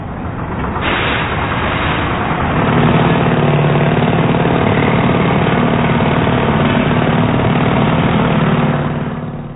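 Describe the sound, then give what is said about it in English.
Roadworks machinery with drills: a loud, steady engine drone with gritty mechanical clatter, a deeper motor rumble settling in after a couple of seconds and running continuously throughout, with no voices. “Teams, I shall shortly play in a sound recording of some well-known roadworks, which I'd like you please to identify.”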